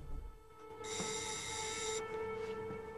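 doorbell ringing

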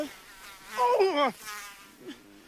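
mosquito buzzing

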